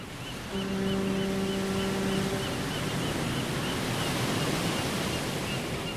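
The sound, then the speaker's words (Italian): A ship's horn in the harbor of Palma de Mallorca, Spain, from ships entering and leaving the port, sounds one long, deep, droning blast lasting about two seconds, then fades into a steady rushing wash of background noise that continues to the end. “Si chiamano sirene anche i potenti clacson delle navi che sentite adesso in sottofondo.”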